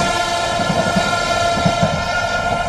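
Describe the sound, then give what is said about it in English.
An iron ore freight train of the mining company Vale in Brazil rolls steadily along the rails, loud, with a continuous metallic whine over a rhythmic low clatter of wheels. No one speaks. “The population benefits from this Vale train, as they call it.”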